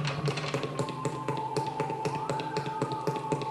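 Moody video game dungeon music plays steadily in the Wittenberg Worship Space, the same music as in Struggle Cave, with sustained droning tones under a quick, regular pattern of light tapping percussion, at a moderate level and with no voices.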